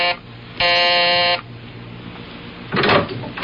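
The doorbell of a landlord's brownstone house, pressed by a reporter, gives a single harsh, steady buzz lasting under a second, with stacked harmonic tones, followed by quiet hiss and then a brief rustling noise.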